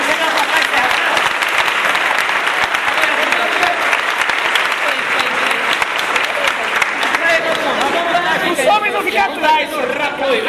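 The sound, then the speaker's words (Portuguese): An audience applauds a music group and its singer for about ten seconds, a dense, even wash of many hands clapping, with scattered voices and cheering mixed into the crowd noise. “Apoiar e aplaudir mais uma vez.”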